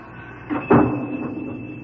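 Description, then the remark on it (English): A door swings shut with a single solid thud and a brief rattle as someone leaves, over a steady background hum, with no voices. “Grandpa's gone now. Yeah, I hear the door.”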